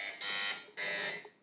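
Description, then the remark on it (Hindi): Two loud, harsh electronic buzzes from a game show buzzer button being checked, each lasting about a third of a second with a short gap between, with no talking. “buzzer का button check करवाइए”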